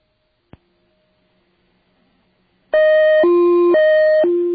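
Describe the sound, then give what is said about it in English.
A telephone tone from a dialed, newly introduced special phone number: a click and a quiet open line, then a loud, buzzy tone alternating between a high and a low pitch about twice per second, like an English ambulance's hi-lo siren. “Telephone related. This is a special phone number that is just started being used. Listen to this.”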